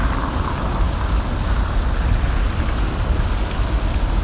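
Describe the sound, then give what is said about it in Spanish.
Steady, dense rumble of heavy road traffic around the Plaza de la República, a large roundabout, at night just after 10 pm, a continuous low engine drone with faint hiss above and no clear breaks between passing vehicles. “Y con bastante tráfico estas horas de la noche, son las 10 y algo.”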